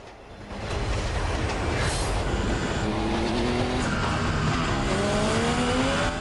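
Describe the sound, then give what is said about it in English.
Motorbike engines roar and rev at high speed as Ford and Trey ride alongside a moving train, their pitch climbing and whining over the steady, heavy rumble of the train, loud and continuous throughout. “Ford and Trey speed alongside the train.”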